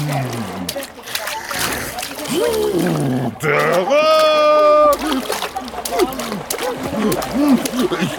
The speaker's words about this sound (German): Ich hab Wasser geschluckt. Nein, Hilfe! Nicht spritzen